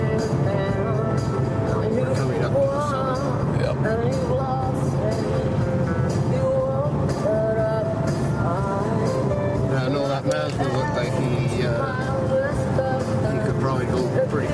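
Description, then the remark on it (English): A steady, loud road roar from inside a fast-moving car, with a constant low rumble throughout and people talking over it. “Yeah, perfect car to be the speed of driving this fast.”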